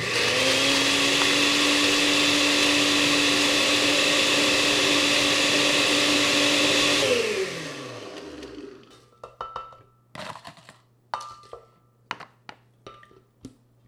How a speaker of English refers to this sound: Then I added 1 cup of crushed ice to my blender and let it rip.